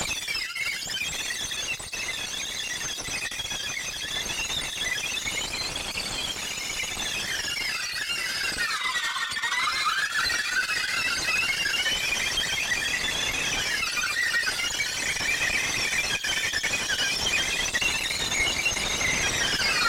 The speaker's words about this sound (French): Voilà, on entend le vent siffler, mais on entend peut-être aussi la bande magnétique